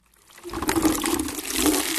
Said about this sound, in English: Here's a sound you're no doubt used to, water running from a tap.